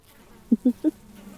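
Low, droning buzz of drone bees: three short, loud pulses in quick succession over a faint, steady hum, with no voices.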